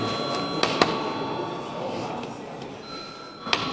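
A steady electric bell rings throughout in the Latvian parliament (Saeima), calling members to registration: a sustained high tone with a few sharp clicks and knocks over a soft background murmur.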